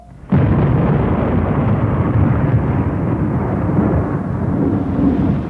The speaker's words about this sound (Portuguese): Chuva, pessoal, chuva, pessoal. Pessoal, está chovendo, pessoal.